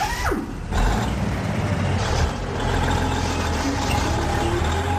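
A heavy truck engine rumbles to life and keeps idling with a low, steady throb, with a brief hiss like an air brake near the start; no one speaks.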